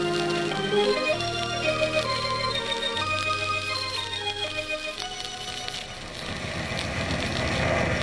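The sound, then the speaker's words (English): Loud, dense ship engine room machinery din: low droning hums that shift pitch in steady blocks, layered with metallic clatter, whirring and ratcheting rattles throughout, with no voices. “How do you fellas stand all this noise?”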